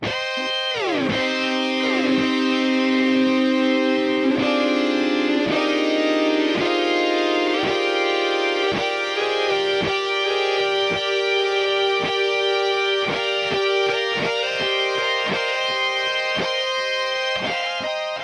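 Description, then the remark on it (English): A sustained, distorted electric guitar line plays alone, layered with computer-generated harmonies three, five and twelve notes above each played note, while added echo smears each note into the next for a thick, shimmering texture. “There's some echo added to this guitar as well, which creates overlap between the notes, adding even more texture and depth to the solo.”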